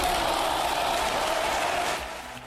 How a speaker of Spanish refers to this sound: Con la bancada socialista en pie y aplaudiendo, el líder de la oposición se ha acercado al escaño de Pedro Sánchez para felicitarle y estrecharle la mano.